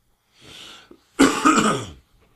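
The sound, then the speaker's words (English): A person coughs: a softer breathy rasp first, then a loud, harsh burst that rattles for almost a second before stopping. No one speaks. “I'm so sorry for coughing.”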